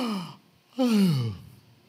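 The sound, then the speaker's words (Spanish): A person yawning: a short breathy sound, then a louder, drawn-out vocal yawn whose pitch slides steadily downward before fading out. No talking. “De repente tal vez iba parando, pero se paró alguien medio soñoliento y empieza a bostezar y usted de repente...”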